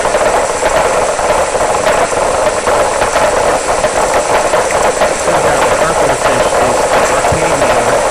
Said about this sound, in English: An old one for the sperm whales. It sounds like a bunch of journeyman carpenters, you know, on Monday morning trying to...